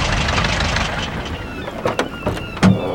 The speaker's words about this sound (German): Wenige Minuten später parkte der VW-Bus vor der großen Halle.